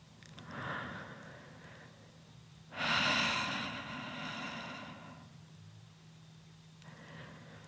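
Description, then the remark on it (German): Audible breathing from a group of people, with soft inhales followed by one long, loud communal exhale and quieter breaths trailing off, with no talking. “Atmet hörbar, damit ihr sehr genau spürt, dass ihr nicht allein seid.”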